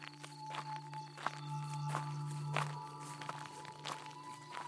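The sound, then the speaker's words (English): A man walks at a steady, unhurried pace away from a station along railroad tracks, with about seven soft crunching steps over a constant low electrical hum and no voices. “He didn't know what was getting in these here fellas' minds, so he commenced to walking.”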